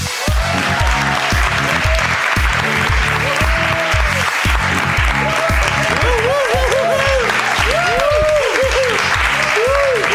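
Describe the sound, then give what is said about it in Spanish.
A live audience applauds loudly and steadily for about ten seconds, a dense wash of clapping with some cheering mixed in, continuing without pause, welcoming the comedian Junet Saïd as a guest on the show. “Que hemos querido traer desde casi la primera semana, pero como no vive en Cataluña cuesta mucho traerlo y esta semana ha coincidido y nos gustaría que recibierais con un fortísimo aplauso al cómico Junet Saïd.”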